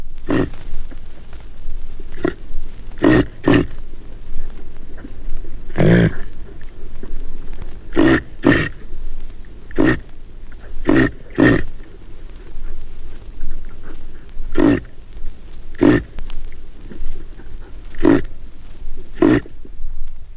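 A cow reindeer grunts over and over, short gruff bursts coming in an uneven rhythm, sometimes in quick pairs, against a steady outdoor hiss like light rain.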